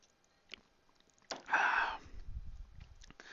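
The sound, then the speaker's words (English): A quiet sip of water: a brief slurping intake of liquid followed by a few soft, low gulps as it's swallowed, with no talking. “I'm gonna take a sip right now, matter of fact.”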